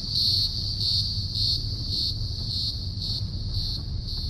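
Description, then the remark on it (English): Cicadas sing in a loud, shrill chorus that pulses steadily about twice a second, continuous throughout, over a low background rumble. “And even the sound of cicadas singing.”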